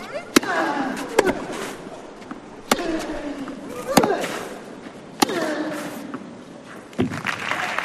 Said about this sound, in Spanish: Así suena la Philippe Chatrier con un poquito de aplausos, un poquito de gente, pero evidentemente nada que ver con un año normal.